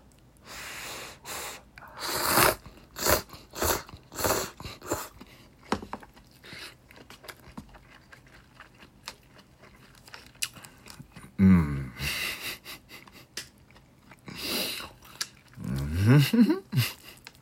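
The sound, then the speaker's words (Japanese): Crisp chewing of spicy food with crunchy bites and wet mouth sounds, mixed with sharp sniffs and heavy breaths, followed by a couple of short hummed voice sounds. “はい、咀嚼音がしますので、ご注意ください。”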